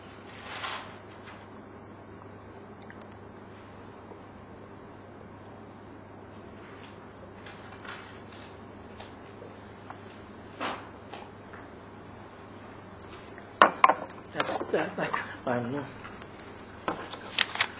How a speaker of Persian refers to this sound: یه ذره آب بخورم. یه آب جوش ولرم.